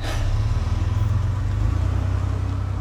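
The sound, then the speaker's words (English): A car's engine rumbles deep and steady as it drives off, the low hum holding an even loudness for a few seconds with no voices. “The first half of the drive is in silence, but the world within the car is as heavy with storm as the world without.”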